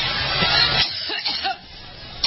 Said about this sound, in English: That's a very dry cough. That sounds like when I have allergies.